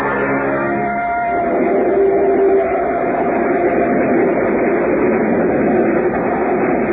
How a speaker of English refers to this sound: Train near Plattsville.